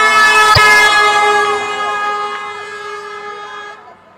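A big truck passes along a street where a large crowd has gathered, its loud, blaring siren a steady harmonic wail with a few pitch bends that fades as the vehicle moves away. No one speaks.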